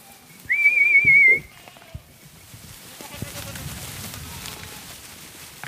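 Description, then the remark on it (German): A shepherd's sharp, sustained whistle rings out loud for about a second, followed by the low shuffling murmur of a herd of over 600 goats with faint, scattered bleats, as they walk along country roads to dry grassland on the steep slopes of the Main-Muschelkalk area. “Mit über 600 Ziegen läuft der Schäfer in der 5. Generation über die Landstraßen zu seinem Arbeitsplatz, den Trockenrasen an den Steilhängen des Main-Muschelkalkgebietes.”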